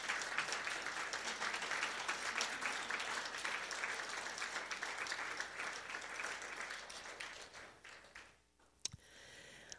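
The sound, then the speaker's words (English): An audience stands up, clapping and cheering steadily for about eight seconds, dense, before the applause fades and a single sharp knock sounds near the end. “Can we just all stand up and cheer and clap and bless her?”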